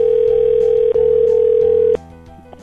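A loud, steady telephone dial tone hums continuously for about two seconds after the other caller hangs up, briefly dipping once, then cuts off, leaving quieter background sound.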